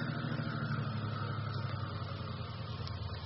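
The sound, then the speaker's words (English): A car engine idles steadily after the car stops on a road curving beside a cliff above a river, a continuous low rumble with a faint vibrating hum that holds at an even level throughout, with no voices. “Now, cut your engine.”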